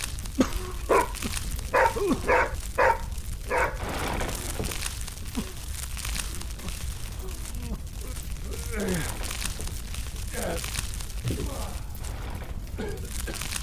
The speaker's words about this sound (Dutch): Als die hond niet zo hard had geblaft, dan hadden we Samuel nooit op tijd gevonden.